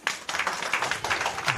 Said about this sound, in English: How many people are in love? Just clap if you're in love.